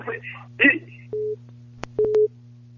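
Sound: telephone busy tone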